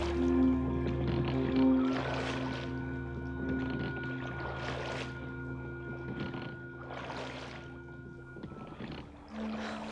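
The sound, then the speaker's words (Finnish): Oars dip and splash through water in slow, regular strokes about every two and a half seconds, as rowers push a boat out into the river current at night and row it steadily away from a city, over a sustained low humming drone. “Herätin soutajat. Ja he työnsivät aidonsa virtaa ja soutivat pois kaupungista.”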